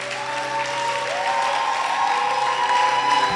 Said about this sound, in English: Are those hand claps for the Lord?